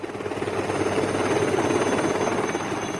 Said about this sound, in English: What is that noise? A search team in a helicopter. A search team? My God, what is going on there? The search team just landed the helicopter.